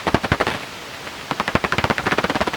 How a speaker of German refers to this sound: Wasserfledermaus, wahrscheinlich mehrere Individuen knapp über dem Wasser jagend.